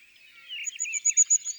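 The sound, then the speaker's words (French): Soft, high, thin calls of a crested tit: a wavering trill that breaks into a few short, rapid buzzy notes toward the end, with no voices. “Ce sont les cris de la maison Jehuppé.”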